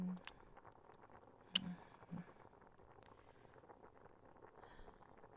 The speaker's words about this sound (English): I think the water is boiling over.